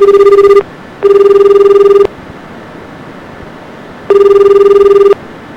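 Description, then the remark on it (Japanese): A telephone ringback tone of a call to the Japanese police emergency line 110, heard through the line, sounds in three steady, buzzing bursts of about a second each, separated by pauses. It is loud against a faint hiss, and nobody answers. “早く出てこいよ。全然出てこないよ。警察緊急110番だぜ。”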